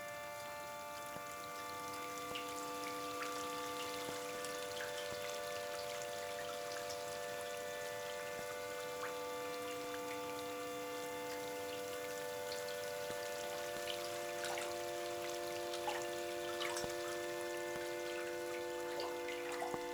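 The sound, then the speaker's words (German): Water drips irregularly, each drop a small, sharp tap, scattered through a steady humming tone in the background. The drops are moderately loud, and no one speaks. “Der Wassertropf, Tropf, Tropf, Tropf, Tropf, Tropf, Tropf, Tropf, Tropf, Tropf.”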